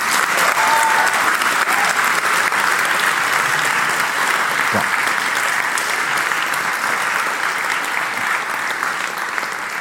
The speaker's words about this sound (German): Bitte einen ganz, ganz großen Applaus.